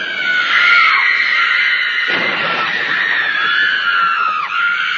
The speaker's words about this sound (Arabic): هذا أب استيقظ من نومه فزعا خائفا على صراخ في بيته، فمن كان الصارخ المستغيث؟ لقد كانت بنيته الصغيرة.